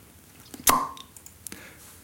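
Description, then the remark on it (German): A single sharp pop of a beer bottle being opened, fairly loud, with a brief ringing tail, followed by a faint click a moment later. “ich brauche Plopp-Geräusche, ich habe ja nur noch ein offenes Bier jetzt.”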